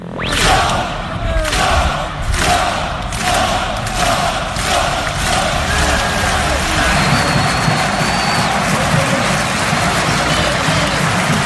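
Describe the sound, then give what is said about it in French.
A loud stadium crowd of Angers football supporters, including the groups SCO 1919 and COP de la Butte 1992, roars and chants together, with rhythmic bursts of clapping in the first few seconds and a steady wall of voices throughout. “parce que les supporters vous ont fêté et on va les entendre, ces supporters.”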